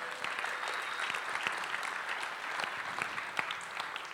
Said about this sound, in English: Let's give the Lord a clap for that.